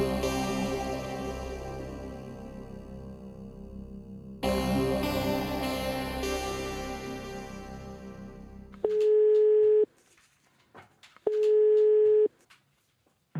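After a stretch of music, a telephone call to a secret location somewhere in Germany rings twice: two loud, steady electronic beeps about a second long, separated by a short pause, with no voices.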